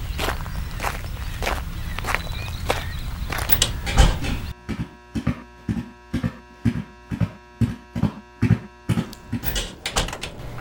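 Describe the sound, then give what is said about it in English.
Quick, evenly paced footsteps of a woman walking from her car across a parking lot towards a lab area tap along in a steady rhythm over a constant electrical hum that follows a brief stretch of busier outdoor noise. “She climbs out of her car and walks quickly towards the lab area.”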